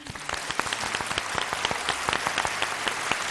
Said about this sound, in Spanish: Pues oye, también el aplauso del día para él, ¿eh? Por supuesto. Venga, pues sí. Venga. También el aplauso del día. Venga.